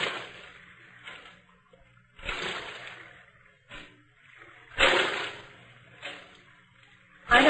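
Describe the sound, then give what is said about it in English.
Oars dip and splash through water in a steady rhythm, about one stroke a second, as a boatman rows a boat around the Blue Grotto sea cave, each a soft wash fading before the next, with a low hum underneath and no voices. “Now, I will roll you round the Blue Grotto.”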